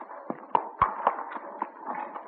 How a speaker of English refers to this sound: The frail little homestead, the ramshackle barn, the sagging corn crib, the clatter and creak of the old pasture gate as a farmer boy drives a team into the barnyard.